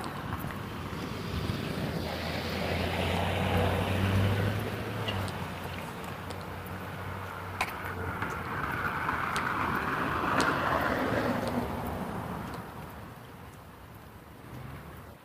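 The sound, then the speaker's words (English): A large truck rumbles past on a street, its low engine drone steady beneath broad road and wind noise that swells as it draws closest, then slowly eases off. “Is this truck going to try to make a turn? Get out of his way.”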